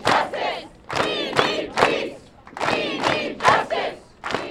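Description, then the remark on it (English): Hundreds of protesters chant together at noon in the parking lot of a suburban shopping center, loud, rhythmic bursts with voices rising and falling in repeated syllables and brief gaps between, the sound broad and open. “Protests have come to the suburbs. At noon today, hundreds gathered in the parking lot of the Kingsdale Shopping Center in front of the blue tile building that once held the Lazarus department store.”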